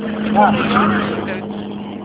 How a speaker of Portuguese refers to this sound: eu tô dirigindo, tô no trânsito, na pista.